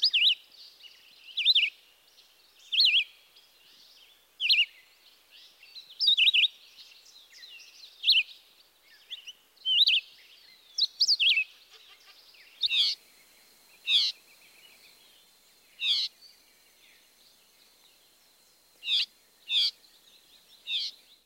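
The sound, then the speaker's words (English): A male red-eyed vireo sings short, repeated phrases spaced a second or two apart, mixed with a drawn-out whiny call note, clear against a quiet background with no talking. “Here's the red-eyed vireo's song again, as well as his whiny call note.”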